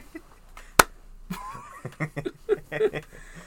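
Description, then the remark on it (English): A single sharp hand clap cracks out near the start, followed by soft chuckling and murmuring voices. “Man just claps his hands.”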